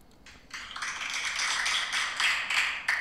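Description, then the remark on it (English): A burst of canned applause played from an applause app on a phone, many hands clapping in a dense crackling wash that swells in after a brief pause and holds steady at a moderate level, sounding thin with little low end. “Oh, I got an applause app just for this. Listen to this.”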